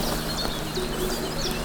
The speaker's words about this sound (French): Les oiseaux.